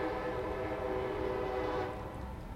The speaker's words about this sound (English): Because for some reason, the train always comes when I'm in the middle of making an awesome point.